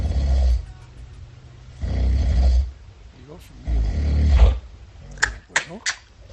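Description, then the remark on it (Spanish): Loud, heavy snoring in the early morning hours: three long rasping snores at a steady, evenly spaced rhythm, deep, followed by a brief spoken exclamation. “el premio Amapola concluyó de madrugada con estos ronquidos”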